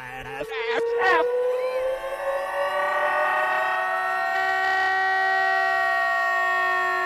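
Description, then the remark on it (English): The "fat alarm" siren-style sound effect played backward: a loud, buzzy, harmonic-rich tone whose pitch slowly climbs and then holds steady for several seconds, with a few short bursts of noise at the start. “And then come to me and beg me to play the fat alarm in reverse.”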